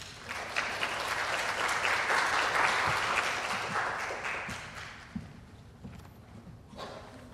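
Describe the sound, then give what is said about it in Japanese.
An audience at a morning worship service honoring the elderly claps steadily to welcome a speaker, a dense wash of many hands that swells for a few seconds and then gradually thins and fades out, with no voices. “拍手を持って迎えましょう。”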